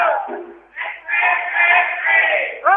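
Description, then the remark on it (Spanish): A protest crowd of many voices shouts the slogan "¡Especulación!" (speculation) in unison, loud and sustained, dipping briefly after the first syllables before swelling again into a long, drawn-out chant. “La gente está gritando este, especulación, como podéis escuchar.”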